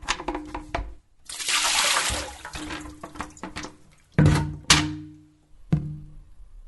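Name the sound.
water spilling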